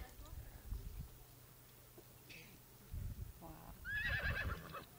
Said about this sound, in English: Horses all over the place are getting upset because they're seeing one of their companions being lassoed for someone like me. Okay. They're trotting over.